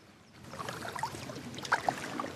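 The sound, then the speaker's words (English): A canoe paddle dipping and swishing through the calm water of a lake at first light, with soft splashes and gentle trickling, plus a few faint chirps in the background. “Charlie is paddling along in a canoe”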